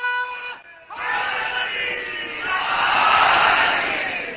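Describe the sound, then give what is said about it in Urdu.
A single voice calls out a short religious chant (naara), then a large crowd of believers roars back the slogan in unison, the mass shouting swelling loudly and holding for several seconds. “شاید مجھے پھر یہ یاد دلانا پڑے کہ میں بہت خوش ہوتا ہوں کہ جب کوئی مومن نعرہ لگاتا ہے لیکن اس وقت جب جواب اتنا پھسپھسا ملتا ہے تو میں اس سے کہتا ہوں کہ نعرے کی توہین سے بہتر یہ کہ پھر آپ نعرہ نہ لگوائے.”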